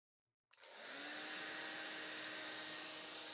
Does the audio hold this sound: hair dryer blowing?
yes